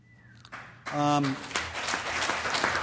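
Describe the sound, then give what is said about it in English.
An audience at an Alcoholics Anonymous talk breaks into steady clapping after a short pause, the dense applause filling the rest of the moment, with a brief vocal cheer rising over it near the start. “You don't have to worry about clapping because alcoholism gallops in my family.”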